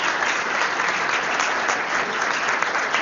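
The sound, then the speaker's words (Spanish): Steady audience applause for a teacher of the company after a stage performance fills the whole stretch, a dense, even wash of many hands clapping at a constant loud level with no pauses or voices breaking through. “un aplauso para nuestra maestra también de la compañía.”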